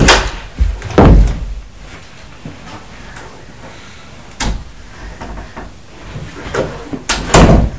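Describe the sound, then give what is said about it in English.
A child eases a door shut slowly so it doesn't slam, giving a few soft, muffled thuds and clicks spread over several seconds, with quiet handling noise in between and no voices. “If you close it gently, then that's nice.”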